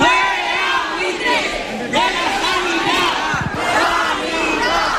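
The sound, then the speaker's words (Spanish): Dozens of protesters gathered in front of the headquarters of Rivera Salud, the company managing Torrejón hospital, shout the slogan "fuera buitres de la sanidad" in unison, many voices chanting loudly and rhythmically in repeated bursts, with a steady roar of the gathering filling the pauses. “Con este grito que escuchan, fuera buitres de la sanidad”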